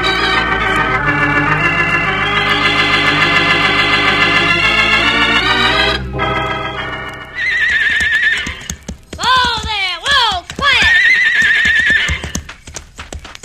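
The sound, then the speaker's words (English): Harnessed horses hitched to a loaded wagon whinny loudly several times, high wavering neighs rising and falling, over a steady clip-clop of hooves, with no talking. “Well, the horses are harnessed, the wagon's loaded.”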